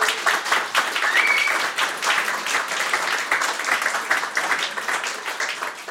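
Steady applause from an audience, a dense wash of many hands clapping at an even, fairly loud level for several seconds, with a brief whistle-like tone early on.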